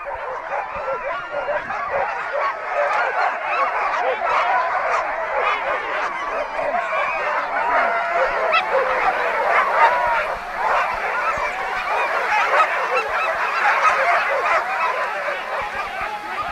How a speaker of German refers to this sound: Und im gleichen Moment ist alles verstummt, mucksmäuschenstill. Die Hunde wissen ganz genau, jetzt kommt es drauf an, keine Kraft mehr ins Bellen legen, sondern ziehen, losziehen. Hören Sie mal zu.